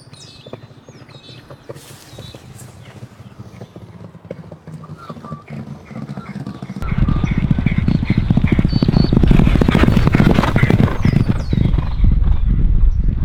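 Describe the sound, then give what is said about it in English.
Galloping racehorse hooves drum past in a fast, thudding rhythm, starting softer and swelling abruptly into a loud, dense rumble of pounding strides that carries through to the end. “Not sure the lead horse is going to have a lot to offer when he gets to him. Yeah, here they come.”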